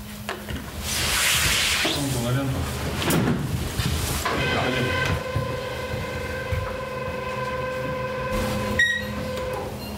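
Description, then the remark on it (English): Inside a moving Gazprom passenger train heading up to the Bovanenkovo gas field, wheels rumble steadily on the rails with occasional clunks and rattles, and a high metallic whine rises and holds through the second half. “Gazprom runs 3 or 4 passenger trains a week up to the Bovanenkovo gas field.”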